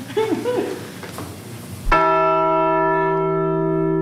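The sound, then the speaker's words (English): A replica of the Liberty Bell in a church basement is struck once, loud, its deep metallic tone ringing on steadily and fading only slightly; people talk briefly just before the strike. “and in the basement, a replica of the Liberty Bell. It's very loud if you ring it.”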